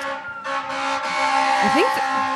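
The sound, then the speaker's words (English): Emergency vehicle sirens wail outside over a steady background rumble, with tonal sweeps rising and falling, loud, alongside traffic noise. “I actually think they're all going to Griffith Park, these sirens.”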